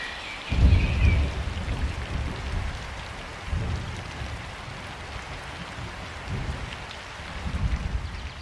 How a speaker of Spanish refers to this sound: Y precisamente, en ese mismo instante, la lluvia comenzó a caer sobre la tierra.